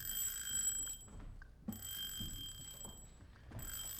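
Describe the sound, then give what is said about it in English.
A telephone rings on the line while calling the Wilhelm Astor Hotel, in repeated bright, buzzing bursts, each about a second long and separated by short pauses, with no one speaking. “Ringing the Wilhelm Astor Hotel presently.”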